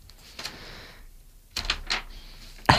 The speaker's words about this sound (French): J'avais coincé ma feuille dans la table de mixage.